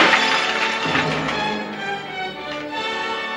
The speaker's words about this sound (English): Van Gogh hurls his glass.